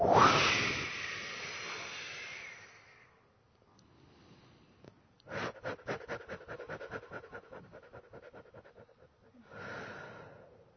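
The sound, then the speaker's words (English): A loud, forceful whooshing exhale during a guided breathwork exercise, followed by a quieter stretch of rapid rhythmic breaths and then another breathy rush at the end. “And another whoosh.”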